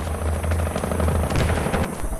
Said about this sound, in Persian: 10 هلیکوپتر دیگر پر از سرباز و اسکورت شده توسط 5 هلیکوپتر توپدار با سرعت به کمک آمد.